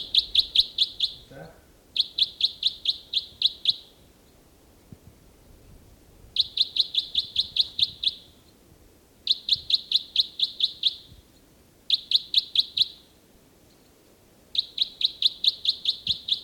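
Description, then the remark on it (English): A songbird, bird 318, sings loudly in full song, repeating six rapid, high-pitched trilled phrases of a few seconds each, separated by short pauses, over a faint low rumble. “Start recording again, bird 318. He's in robust song.”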